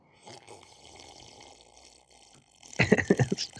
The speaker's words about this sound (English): I slurp my chocolate milk loudly. Sorry.